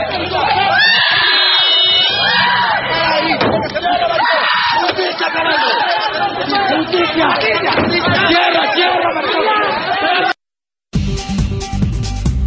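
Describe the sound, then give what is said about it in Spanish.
A loud, chaotic crowd of people screaming and yelling over one another for about ten seconds, then a brief silence before a harsh, noisy burst of sound. “¿Cómo gritan?”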